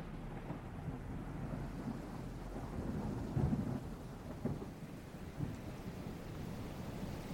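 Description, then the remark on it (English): A thunderstorm: deep rolling thunder rumbles continuously over a steady hiss of rain, swelling into a louder crash midway before settling back into the low, heavy roar. “shouts over the roar of the storm.”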